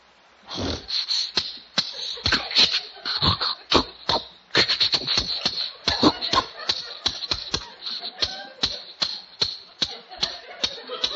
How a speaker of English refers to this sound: Oh, listen to that engine purr. Oh, is she a beauty?